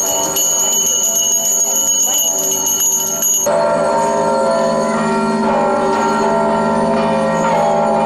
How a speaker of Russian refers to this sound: У многих в руках были колокольчики – символ чистоты и православной веры. Их звуком вторили и колокола строящегося храма.